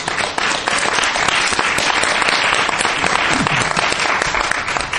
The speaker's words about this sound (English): And I really want to thank her with a round of applause right now.